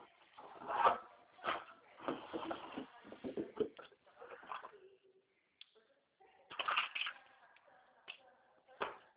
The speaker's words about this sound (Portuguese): Deixa eu pegar a caneta.